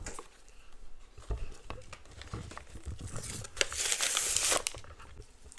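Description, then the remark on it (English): Paper notepad pages, from a notepad that comes with a pen, crinkle and rustle as they're handled, with irregular crisp crackles and soft pats that grow denser and brighter toward the end. No one speaks. “We got some extra paper in there still, but we're gonna try to write on it.”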